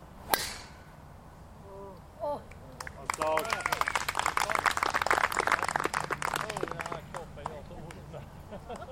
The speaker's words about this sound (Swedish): så går det ett sus genom publiken när han får iväg ett långt slag.